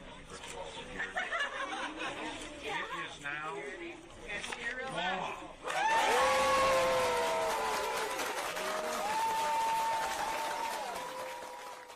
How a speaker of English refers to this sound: A video from last year has gone viral of Walz signing into law a measure guaranteeing free breakfast and lunch for all the state's public school students. The students embrace Walz and cheer him as he signs.